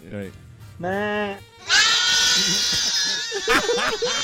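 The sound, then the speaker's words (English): Two goats bleat in quick succession, loud, the second a long wavering cry that stretches on while a voice talks underneath it. “Can I hear the goats again, please?”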